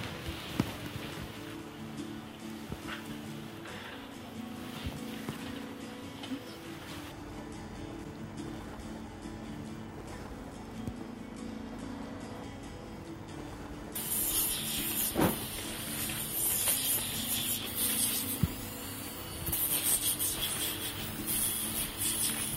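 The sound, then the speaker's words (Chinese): Calluses on feet being filed and sanded with a motorized tool during a demonstration of a foot-care service: a steady whirring, grinding hiss runs throughout with no talking, turning louder and brighter for the last stretch. “咁頭先我做完打磨嗰一 part 啦，咁而家就到清潔啦。”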